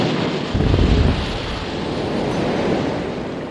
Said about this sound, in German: Als das Schiff fast senkrecht steht, bricht der zweite Schornstein. Er ist so groß, dass zwei Autos bequem nebeneinander durchfahren könnten. Mit einem weithin hörbaren Krachen landet er direkt neben Lightoller auf dem Wasser.